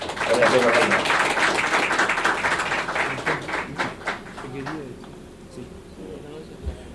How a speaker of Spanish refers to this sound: Un aplauso para mi embajador.